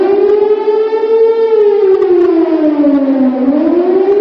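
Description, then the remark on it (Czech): An air raid warning siren wails steadily, its loud droning tone slowly sinking in pitch and then starting to rise again, with rich harmonics and no voices. “Dobar deo javnosti deceniju kasnije teško uspeva da utiša zvuk sirena za uzbunu svaki put kada se govori o vojnim reformama.”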